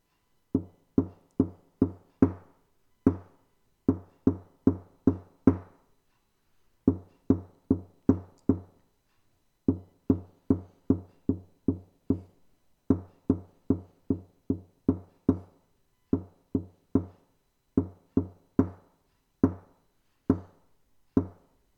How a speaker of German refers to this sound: So, Kinder, seid ihr bereit? Ich klopfe es mal auf den Tisch. Mal sehen, ob ihr es erkennt.